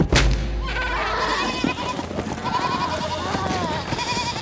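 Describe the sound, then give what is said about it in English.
Several spooked goats bleat in wavering, overlapping cries that start with a sharp thump and continue steadily, with some hoof-like scuffling underneath as they run past Zagreus. “The spooked goats ran past Zagreus.”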